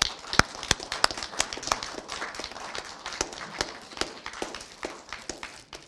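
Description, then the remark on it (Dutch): A crowd applauds at a municipal presentation in Valkenburg, where a book is handed over for services to Valkenburg: dense, irregular clapping carries on steadily for several seconds at a moderate level, sharp individual claps standing out from the patter, with no voices. “Applaus alstublieft.”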